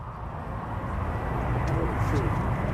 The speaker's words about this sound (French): Au loin, sur la base de Zoknei, dans le nord de la Lituanie, les F-16 danois se préparent.